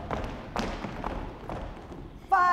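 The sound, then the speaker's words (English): A group stomping their feet on the floor on cue during a team cheer exercise, producing several dull, irregular thuds about half a second apart, with crowd noise underneath and a short, loud voice at the end. “Let me hear you stomp the floor.”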